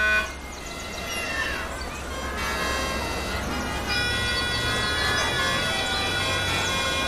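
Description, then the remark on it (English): Several car horns from cars of all sorts honk and toot over one another near the port of a city by the sea in the early morning, some held long, above a steady low rumble of traffic. The sound stays busy and fairly loud throughout, with no voices. “Early morning, you could see cars of all sorts and hear their horns near the port.”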